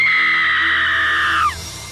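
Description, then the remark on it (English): A woman lets out a single loud, piercing scream on a covert recording made in Dr. Hodel's basement, held steady at a high pitch for about a second and a half before it breaks and drops off, with no talking. “There was digging, a scream, and then a louder scream 2 minutes later.”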